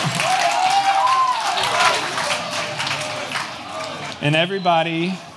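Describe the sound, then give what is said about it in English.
A crowd claps steadily in a dense, continuous wash of applause, while a voice talks over it and calls out loudly near the end. “That's clap worthy. Yeah, let's go!”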